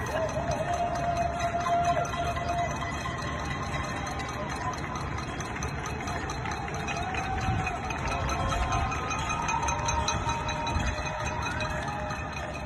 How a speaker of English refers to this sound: now to the average listener, that cacophony of pots and pans would be just simply noise. But actually, it is a communal celebration of gratitude.